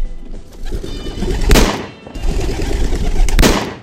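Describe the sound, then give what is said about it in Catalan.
Two sharp, loud gunshots about two seconds apart, fired by two shooters at two pigeons just released by a referee, ring out over a busy, fluttering rustle of pigeon wings, with no voices. Both pigeons fall dead at the same time. “L'àrbitre deixa anar els dos coloms. L'Anna i en Frank Disparen.”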